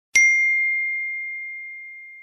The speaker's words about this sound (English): Her phone pinged.